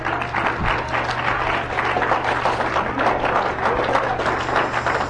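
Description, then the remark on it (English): An audience applauds for the Lord Jesus, many hands clapping in a dense, continuous wash of sound that stays loud and even throughout, with no voices standing out. “Let's put our hands together for the Lord Jesus.”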